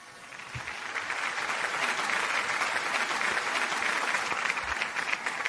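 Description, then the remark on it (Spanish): An author's fans, brought in for a book interview, clap steadily and continuously, a dense rattle of many hands that swells quickly and holds at a fairly loud, even level throughout, with no voices standing out. “Bueno, tengo que decirte que hemos traído a todos tus fans, están aquí detrás aplaudiendo.”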